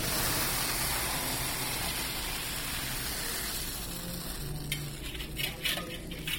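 Thick hot fudge, made from syrup, cream and chocolate cooked in a big copper kettle to 232 degrees, pours into a frame on a marble slab with a steady, soft hissing wash, followed near the end by a few light clinks and scrapes of metal on stone; no one speaks.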